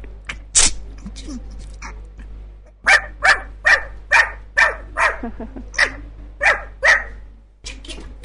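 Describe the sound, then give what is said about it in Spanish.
A poodle named Cuchi, sick with a bad cold, sneezes in a rapid run of about eight sharp, breathy bursts at a steady rhythm, after one earlier isolated sneeze, over a low constant hum. “Sí, está estornudando.”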